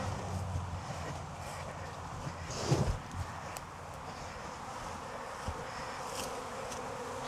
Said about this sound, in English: Got the queen, got all the bees up at the truck.